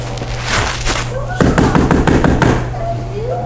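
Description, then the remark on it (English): A rapid run of sharp knocks on a door, a dozen or so quick raps bunched together, over a steady low hum with faint vocal sounds around them. “Why is somebody knocking on the door?”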